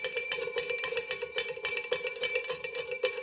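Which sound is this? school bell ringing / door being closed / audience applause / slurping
school bell ringing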